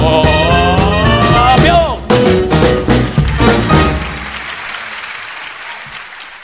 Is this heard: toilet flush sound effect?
no